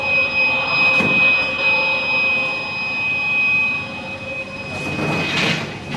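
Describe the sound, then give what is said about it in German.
A KWL textile dry-cleaning machine runs with a steady mechanical drone and thin, constant high-pitched whines, its noise swelling briefly twice. No one speaks. “Das ist unser neueste Maschine, die wir haben. Eine KWL-Reinigungsmaschine.”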